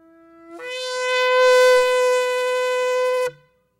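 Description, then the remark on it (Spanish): A single sustained, brassy blast from a shofar, a ram's horn, rises in pitch at the start, holds a loud, harmonically rich tone for about three seconds, then cuts off abruptly, heard alone without talk. “¿Puedes tocar un shofar ahí?”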